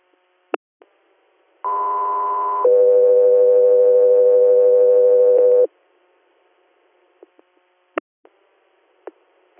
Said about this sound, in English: Guthrie Air, stand by for tones.